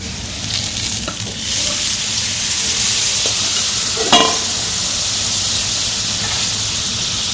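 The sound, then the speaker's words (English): Gyoza sizzle and steam loudly on a hot plancha after a little water is added, covered with a stainless steel bowl: a dense, steady hiss that swells slightly after the first second, with a brief metallic clink partway through and no talking. “So we start to grill with the plancha, and now we put a little bit of water to make steam.”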